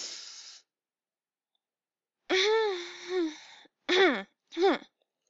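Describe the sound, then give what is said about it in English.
Someone with a tickle in their throat clears it: a brief breathy rasp, a pause, then a longer voiced rumble followed by two short, sharp throat-clearing bursts. “Just keep needing to clear my throat.”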